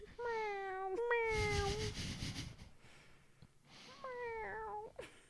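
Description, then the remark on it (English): A Jellycat plush toy dragon, held up to a microphone, lets out a short series of high, clear meows, a pair close together, a pause, then two more, with some soft handling rustle. “Our dragon meows.”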